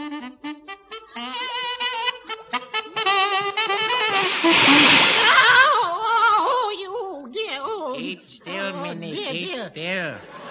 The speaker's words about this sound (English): Hold that saxophone still. But it's getting hot, Henry. I don't care, Minnie. No. How can I get this jet of green steam up it if you jiggle about? Why do I have to have a jet of green steam up my saxophone?